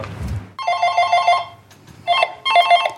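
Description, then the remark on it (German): A telephone rings in three loud bursts of rapid bell trills, with short pauses between rings and a low thump at the very start, on a phone line where delivery orders come in from 10 o'clock. “Okay, dann gehe ich ans Telefon.”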